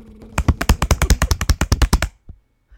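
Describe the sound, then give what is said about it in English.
A fast run of sharp hand slaps on a surface, about sixteen evenly spaced hits over under two seconds, mimicking a drum roll before stopping abruptly. “That just sounded like slapping.”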